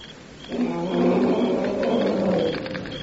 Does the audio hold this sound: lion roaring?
yes